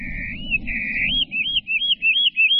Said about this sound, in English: you can go to one part of the state and hear hermit warblers singing a certain way